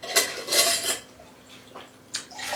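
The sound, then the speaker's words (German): Water is poured into a glass between whisky tastings, a splashy gurgling stream with glassy clinks, then a pause before a second brief pour. “Ein bisschen Wasser zwischendurch.”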